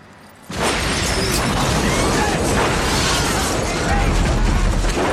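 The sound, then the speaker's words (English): A bus explodes in a film scene filmed in Sweden: after a brief quiet moment, a sudden loud blast erupts into a sustained, roaring rumble with crackling debris that continues for several seconds. “The bus is blowing up for no reason.”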